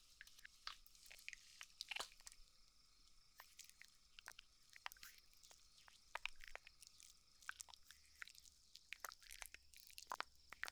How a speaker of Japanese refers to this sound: シャワーフォームを泡立てて、お耳を洗っていくよ。